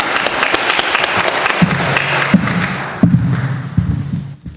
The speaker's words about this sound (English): Let's clap for them. Thank you.